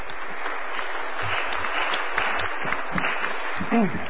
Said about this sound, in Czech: V každém případě chci také poděkovat našim vystupujícím, našim hostům. Určitě si zaslouží potlesk, podobně jako jejich předchůdci.